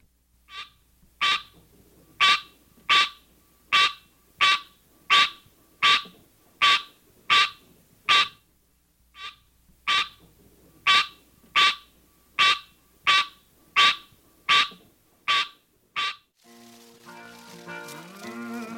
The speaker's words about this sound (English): One parent, the green tree frog, Hyla Scenaria, has this call.